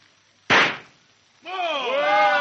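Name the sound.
gunshot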